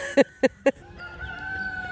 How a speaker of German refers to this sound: Und ein Hahn, der kräht. Davon haben wir mehrere.